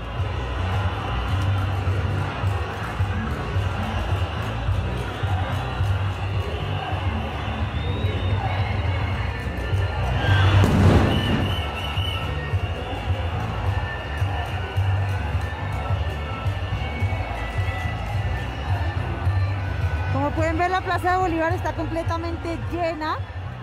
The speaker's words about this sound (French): Petit aperçu sonore de la place Bolívar à Bogota, le 28 avril, totalement pleine, colorée et bien ambiancée.